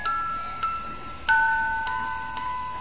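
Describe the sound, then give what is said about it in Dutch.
The hands of a clock tick steadily, with clear clicks about every half second over a faint sustained tonal hum, moderately loud, with no voices. “Dat zijn de wijzers van de klok.”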